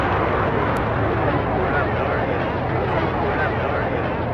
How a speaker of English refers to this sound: I noticed watching videos of it, like, there is a persistent background noise across both versions. It's like, I think it's supposed to be the crowd. Yeah, it's a whistle, probably. It's the whistling it's making the crowd this noise.